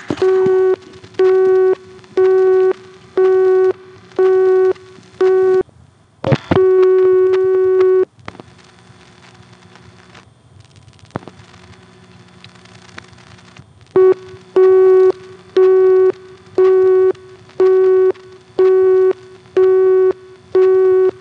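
A loud payphone busy signal, heard after dialing 102 for directory assistance, beeps in a steady on-off rhythm, interrupted midway by a continuous tone and a few seconds of quiet line noise before the busy pulses resume.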